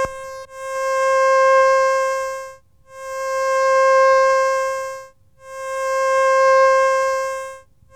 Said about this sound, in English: Now a triangular wave.